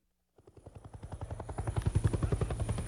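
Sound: helicopter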